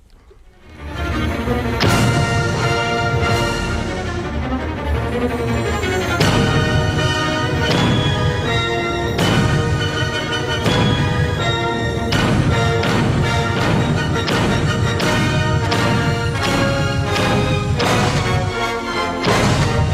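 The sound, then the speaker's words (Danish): Loud explosions from a scene in a Danish film go off again and again, roughly every second or two, over a dense, continuous roar that stays loud and full throughout the scene. “og hvis man lytter godt efter, så kan man høre en masse eksplosioner.”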